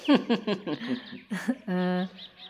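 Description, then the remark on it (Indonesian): Several pet birds chirp and call in quick, busy bursts, followed by one steady, held whistling note before the chatter picks up again faintly; various birds singing at a house with shady trees and a wide yard. “Rasanya nyaman sekali berbincang-bincang ditemani aneka macam burung berkicau.”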